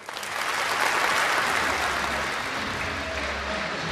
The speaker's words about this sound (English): Well, there it is. You can hear the cheering still in the back of the hall.